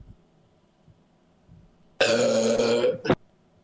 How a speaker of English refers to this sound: Oh, that's the big one. That burp.